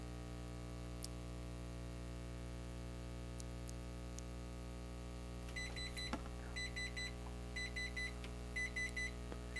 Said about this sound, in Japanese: これでですね20秒経ちましたので、タイマーがブザーを鳴らせてお知らせしております。ですからまあ簡単にキッチンタイマーとして使用することもできます。